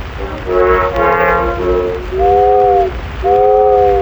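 A steamboat whistle sounds a long, rich chordal blast, then two shorter steady hoots in a lower, pure tone, all over a constant rumbling background with no voices.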